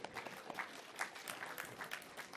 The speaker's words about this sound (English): In my view, that's not a round of applause either. That's a ripple of applause, right?